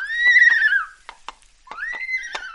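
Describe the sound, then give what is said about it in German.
A zebra gives two loud, high braying whinnies with harmonic, wavering tones, the first long and falling, the second rising after a short gap filled with a few brief snorting clicks. “Das Zebra und der Affe.”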